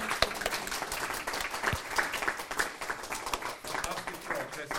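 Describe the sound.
Sustained audience applause fills the room, dense overlapping claps at a steady moderate loudness for several seconds, with faint voices murmuring underneath.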